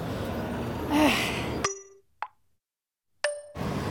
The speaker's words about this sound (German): Ah, das war ja gerade. Ihre Tasche war auf. Und ihr Beutel ist runtergefallen.